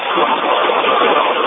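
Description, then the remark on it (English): A small 10-horsepower Massey Ares Pony tractor engine laboring up a grade, a steady, loud, rough drone with no breaks, sounding thin and band-limited as if heard over a phone line. “That's what a tractor sounds like.”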